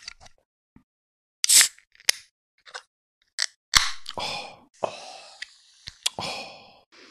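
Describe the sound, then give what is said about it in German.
A can of forest-berry drink being opened: a series of sharp metallic clicks and ticks, then a short hissing burst and fizzing noise that fades away. No one speaks. “Muss genau, lass doch mal zischen.”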